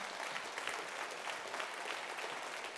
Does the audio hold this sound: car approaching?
no